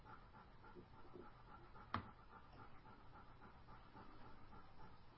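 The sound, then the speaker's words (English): A dog named Jamie, just back from her walk, pants softly and steadily on the floor, a continuous breathy rhythm with one brief sharp click partway through and no one talking. “You can hear Jamie breathing on the floor.”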